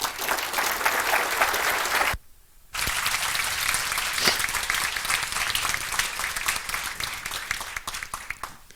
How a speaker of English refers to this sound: So, applause for Clay.